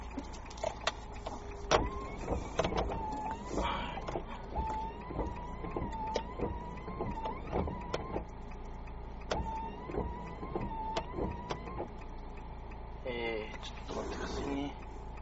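An electric car window motor whirs steadily for about ten seconds, punctuated by clicks and knocks, with a low engine hum beneath and a brief rattling burst near the end.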